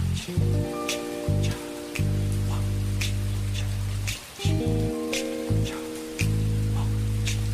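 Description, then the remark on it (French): Steady rain patters with scattered sharper drops, layered over low sustained musical chords that swell and cut out in blocks. No one speaks. “Je me reposais et la pluie tombait.”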